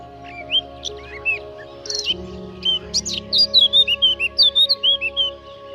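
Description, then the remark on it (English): A blackcap sings scratchy, warbling trills from scrub in quick bursts, the phrases speeding into a rapid run of bright notes toward the end, over a faint steady low hum. “And you'll also hear the blackcap's scratchy trills from the scrub, like this.”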